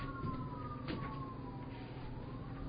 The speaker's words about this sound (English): Hey, the ambulances are coming for all the wounded in here.